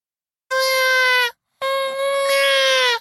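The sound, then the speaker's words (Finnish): A baby cries loudly in two drawn-out wails at Christmas, on its first Christmas, the second wail longer than the first, with a brief catch of breath between them and no talking. “Miksi … vauva itkee?”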